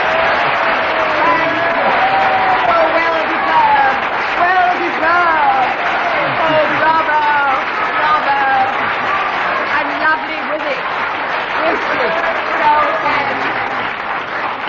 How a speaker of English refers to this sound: That extra long applause was because Kenneth Williams played to the audience outrageously here in the studio. So we do apologize if you got a bit bored with all the applause at home.